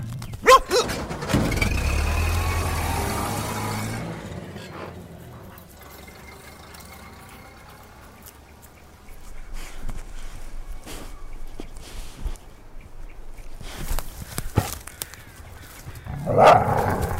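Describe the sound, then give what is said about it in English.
A dog barks in a few scattered bursts, with quieter stretches and some rustling background noise between them, then another burst of loud barking near the end. “Good dog.”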